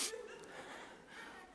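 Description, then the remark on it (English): A voice imitates a child sniffing a marshmallow, drawing in breathy nasal inhales at a fairly quiet level, with no words spoken. “Others kind of look at it. And then they kind of get close and they sniff it.”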